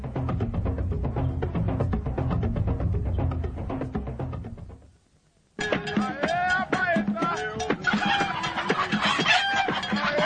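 Chickens cluck busily and loudly, with a rooster crowing among them, at the Pimpin market in Bangos where chickens are being sold; a dense, noisy market clamor fills the first half, then after a brief lull the squawking flock resumes.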